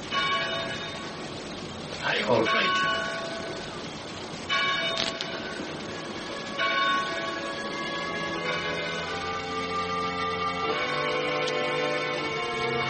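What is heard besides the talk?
chapel bell ringing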